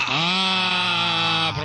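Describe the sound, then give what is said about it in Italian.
A professor imitates a flock of sheep bleating, producing one loud, sustained, nasal bleat lasting well over a second, alone with no talking. “Professore, non bastavano le pecore singole, adesso a branchi ce le porta.”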